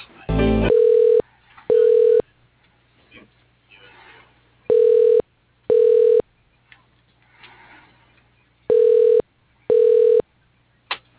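Telephone call transfer tones from an automated phone directory as a call is transferred to a person's line: three pairs of steady mid-pitched beeps, each about half a second long, separated by pauses, with a short burst of noise at the start and faint murmuring between pairs.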